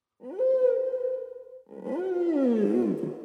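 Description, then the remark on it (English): Two long whale calls: first a steady, droning moan held for over a second, then a louder, wavering cry that slides up and down in pitch, with no one speaking. “Whales.”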